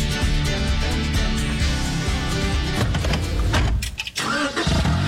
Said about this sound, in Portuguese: E o som de um carro novo ligando. Esse momento a gente nunca esquece, né?